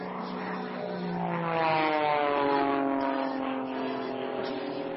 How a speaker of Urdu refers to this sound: یہ ایک اور جہاز آ رہا ہے، بتائیے اس کا رنگ کون سا ہے؟ نارنگی۔